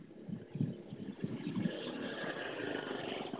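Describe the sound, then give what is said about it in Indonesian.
A motorcycle engine rumbles steadily, its low throbbing drone holding fairly even over a wash of background noise, with no one talking. “Aku dengar ada suara motor tuh guys.”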